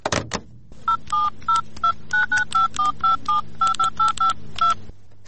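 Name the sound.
telephone being dialed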